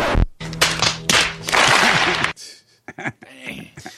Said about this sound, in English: That noise for the podcast listeners is people slapping their foreheads. The audience.